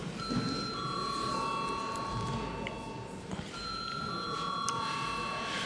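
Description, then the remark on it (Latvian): A parliament chamber bell rings before a vote on a bill in its second reading. It sounds in a steady, high electronic tone that holds for a few seconds, breaks briefly, then sounds again, over a low murmur and shuffling. “Lūdzu zvanu.”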